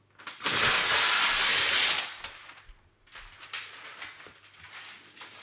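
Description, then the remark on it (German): A sheet of white meat-counter paper, used in place of plastic film, crinkles and rustles, first a loud sustained burst of crackling, then softer, irregular crackles and scrapes as it keeps being handled. No one speaks. “Ich lege es mal weg, weil es sonst die ganze Zeit so knittert und knistert.”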